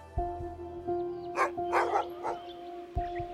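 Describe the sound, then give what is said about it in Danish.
Hunting dogs bark loudly and insistently during a duck hunt at Rødenbjerg Sø lake in Thy, a quick cluster of sharp barks in the middle, over a steady low hum with a few thuds around them. “Hundenes glammen lyder højt og insisterende.”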